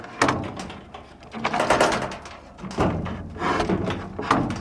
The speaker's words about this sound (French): Ça, c'est la porte en bois.